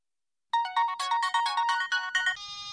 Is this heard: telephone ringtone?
yes